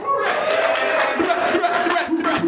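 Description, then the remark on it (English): An audience at a live show cheers loudly and continuously, voices whooping and yelling over a dense wash of applause, with a few higher shouts standing out near the end. “Get the Arsenio meter clapping.”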